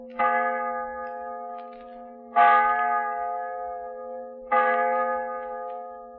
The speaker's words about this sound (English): I come from a small town in Wisconsin, and what I'd like to hear is the old village church bell. Don't ask me why. I'd just like to hear it. Thanks. Okay, Sergeant. Here's your wish. The old village church bell.